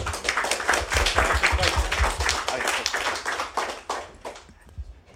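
A burst of applause from a group, dense overlapping hand claps at a steady loud level that thin out into a few scattered claps over the last second.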